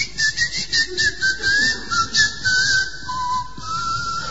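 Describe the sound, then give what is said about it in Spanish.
A person whistles a short, wavering melody, the pitch sliding between notes in a steady run of phrases, with no talking over it. “Entonces lo cambié por el chiflido.”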